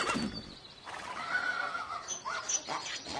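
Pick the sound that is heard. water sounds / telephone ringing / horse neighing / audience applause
horse neighing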